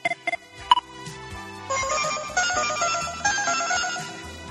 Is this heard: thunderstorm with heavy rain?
no